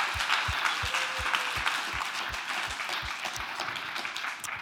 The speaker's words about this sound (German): Band, ein riesen Applaus, wirklich sensationell. Danke vielmals.